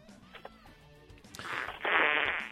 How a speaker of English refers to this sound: All right, someone farting into the receiver.